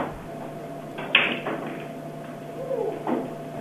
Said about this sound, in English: I hear her opening doors and saying, hello? Any ninja boys in here? No, she didn't say that part, but